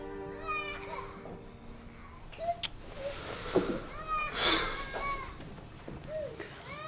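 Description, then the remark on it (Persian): A child cries in a series of high, wavering wails that rise and fall over several seconds, moderately loud, with brief pauses between the cries. “جانم اومدم، گریه نکن.”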